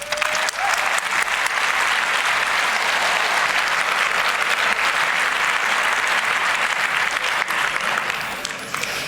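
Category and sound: crowd, loud audience applause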